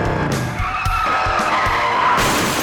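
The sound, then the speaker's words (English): Motorcycle tires skid with a loud, drawn-out screech that wavers in pitch, broken by several heavy thuds and bursts of noise as if something crashes. No one speaks. “A motorcycle accident changed everything.”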